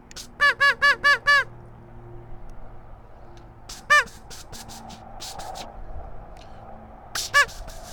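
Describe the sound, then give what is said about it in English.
A duck call, blown from a hunting blind on a warm day, gives a quick run of five loud, nasal quacks, then a single quack a few seconds later and two more near the end, with quieter rustling between. “Let's give them a quack.”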